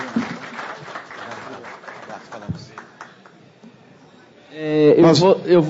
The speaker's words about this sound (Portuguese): Mais uma vez, forte salva de palmas ao deputado do Plano Passo.